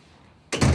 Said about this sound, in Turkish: Başı önde, hüzünlü. Kapıyı kapatıp içeri yürüdü.